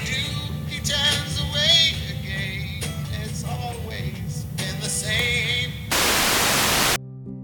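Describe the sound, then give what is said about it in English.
Crackling car radio static with warbling snatches of stations sliding past as the driver turns the tuning dial, ending in a loud burst of pure hiss and then a low steady hum. “He shifts the radio dial.”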